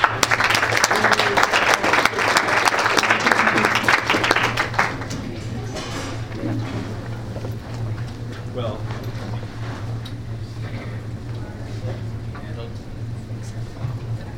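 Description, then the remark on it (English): An audience applauds a speaker being introduced: a dense, loud burst of many hands clapping for about five seconds, then thinning to scattered, softer claps over a steady low hum. “Okay, so if you could give a hand”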